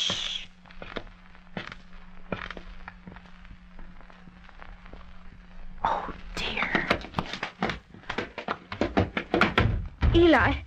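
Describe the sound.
Soft whispering and scattered footsteps give way to a jumble of heavy thuds and clatter as someone stumbles and falls over a body in the dark, with brief voices mixed in.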